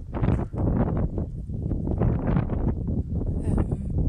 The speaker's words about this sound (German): Wir sind jetzt auf dem Kraftwerk. Ich hoffe, man hört mich. Es ist sehr windig hier.